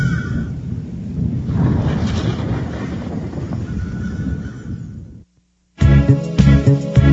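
A deep, rolling rumble of thunder churns loudly for about five seconds, then cuts to a brief silence before music starts.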